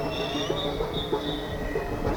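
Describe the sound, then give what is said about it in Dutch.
A tram rolls past through a street demonstration, its wheels giving a sustained high-pitched squeal over a steady low rumble and faint rhythmic clacks, with no one speaking. “Oh, nou komt er een tram door de demo heen.”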